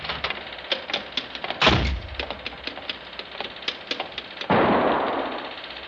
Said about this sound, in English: Hey, that was a gun. Who's there? Miss, did you hear a gunshot?